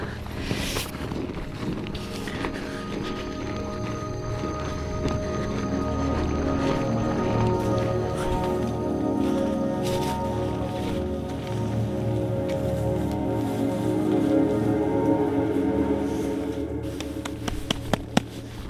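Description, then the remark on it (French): Strong, cold wind roars steadily through a mountain chimney gully near a glacier as night approaches, a dense low rumble with buffeting gusts. A few sharp clicks or steps break through near the end. No one speaks. “Alors comme c'est une cheminée, il y a le vent.”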